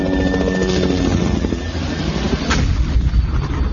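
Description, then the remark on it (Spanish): Dense, continuous rumble of heavy rocket fire from push-and-pull aircraft, with booming blasts and a sharp burst midway, layered over a droning engine overhead; loud, no voices. “Los aviones push and pull surcan los cielos, lanzando cohetes rockets, causando la muerte.”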